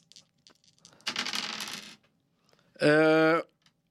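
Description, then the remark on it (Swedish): Dice clatter and rattle across a hard tabletop in a loud burst lasting about a second, followed after a brief pause by a short, steady buzzing tone. “Det utvinns utav tärningarna.”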